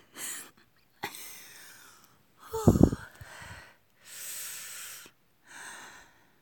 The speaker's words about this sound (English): I just gotta clear my throat afterwards.